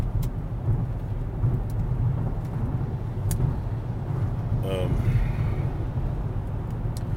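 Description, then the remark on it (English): Steady, loud road rumble from inside a moving car driving behind a car that follows a tractor trailer passing another tractor trailer, a constant low roar of tires and engine with brief faint voice-like sounds partway through. “You don't know this, but I've been behind a tractor trailer. Well, behind a car behind a tractor trailer.”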